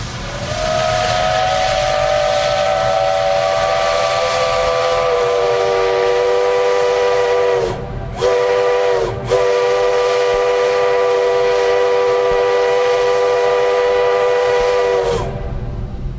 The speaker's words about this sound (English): In the worst days of the pandemic, to some people, it was like a beacon of hope. You know, there was still something going on downtown. That was really great to hear. People living and working near the waterfront brewery still hear the whistle.